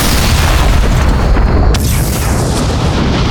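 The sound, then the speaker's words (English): A massive explosion of an armored personnel carrier in snow, a deep rumbling blast with a sharp cracking burst partway through as a second explosion destroys a second identical vehicle, followed by a sustained, heavy roar with no voices. “And then there was a second explosion, and Paul Rubenstein knew that what he'd done had worked, turning the armored personnel carrier into a gigantic fragmentation bomb to destroy the second identical vehicle.”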